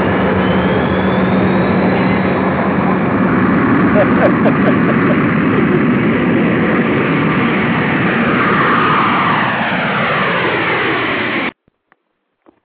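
jet airplane taking off

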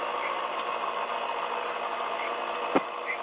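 blender running

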